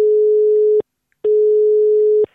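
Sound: telephone ringing tone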